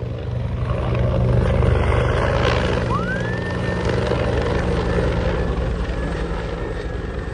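A Bell 412 helicopter roars steadily while dropping water during a fire, its dense rotor thrum filling the whole stretch with no pause, a faint rising whine briefly climbing over the heavy engine noise midway through.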